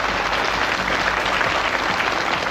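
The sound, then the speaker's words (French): Steady audience applause in France for a samba school from Rio, a dense wash of many hands clapping at a constant, fairly loud level for the whole stretch with no voices rising above it. “On les applaudit, on les remercie, ils reviennent tout à l'heure.”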